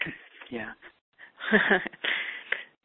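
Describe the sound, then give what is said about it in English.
Heavy, slightly wheezy breaths from a caller in the 508 area code, Massachusetts, come through a thin, muffled telephone line, several in a row with short gaps, moderately loud, with no clear words spoken. “So someone shared their breath.”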